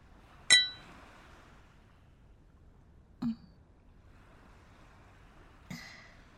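glasses clinking

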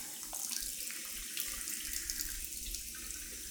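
shower water running

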